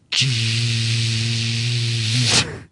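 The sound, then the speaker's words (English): A voice imitates the electrical hum of a blown-out air conditioning unit in which nothing is moving. It is a steady, low, buzzy drone with a hissy edge, held evenly for about two seconds before cutting off abruptly. “I hear an electrical hum, and nothing is happening.”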